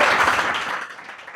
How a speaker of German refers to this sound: Okay, dann lasst mal von euch hören. Macht doch mal ein bisschen Lärm, klatscht mal ein bisschen. Wir brauchen hier das Publikum auch in der Folge mit drin, würde ich sagen. Sehr schön.